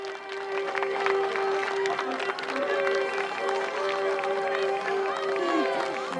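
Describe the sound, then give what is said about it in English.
A crowd of Halloween Town residents claps steadily for several seconds as a family makes its way toward a bus, a dense, continuous patter of many hands at moderate loudness, with a sustained musical tone and faint murmuring running underneath. “The Halloween Town residents clap as the family makes its way toward the bus.”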